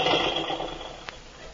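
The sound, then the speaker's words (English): A boat engine turns over, started when a book is dropped onto the start button, and settles into a steady, rough mechanical rumble, loud, with a single sharp knock partway through. “I accidentally dropped this book on how to operate a boat on the button there, and the engine started.”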